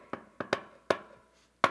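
Five sharp knocks on a door in a deliberate, uneven pattern: a single rap, a quick double, another single, then a final knock after a pause. Fairly loud, with no talking.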